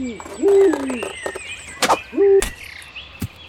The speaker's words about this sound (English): check out this owl. He looks fucking pissed. Any idea what he's saying?